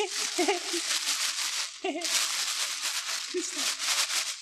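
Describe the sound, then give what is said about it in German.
A small child crinkles and rustles an Aldi plastic shopping bag continuously in loud, crackly bursts, with a few short voiced sounds breaking through underneath. “Stattdessen knistert er hier wie wild mit so einer Aldi-Tüte umher.”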